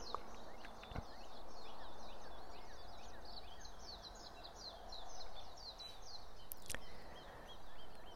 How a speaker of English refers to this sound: I'm hoping that you can hear the birds that are around me that are truly beginning their day. The frogs have quieted. It's as if a magic wand puts one orchestra to sleep, that of the night, and awakens the creatures of the day.